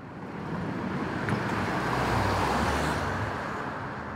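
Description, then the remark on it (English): The engine of a four-wheel internal combustion car rumbles steadily as the vehicle slowly backs out of a driveway, a continuous low motor drone with tire and road noise and no voices. “But no, he backs out of his driveway in a four-wheel internal combustion automobile.”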